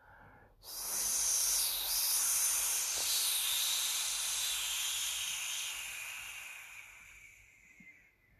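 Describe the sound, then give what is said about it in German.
At midnight at a grave, a sudden, shrill, cutting whistle bursts in and holds steady for about seven seconds, airy and high-pitched, before gradually thinning out and fading away. No voices. “Da ertönte auf einmal ein schneidendes Pfeifen.”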